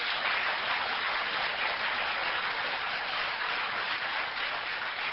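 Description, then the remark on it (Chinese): A crowd applauds for the Lord, a dense, even wash of clapping that holds at the same level from start to finish, with no voices over it. “给点掌声我们的主。”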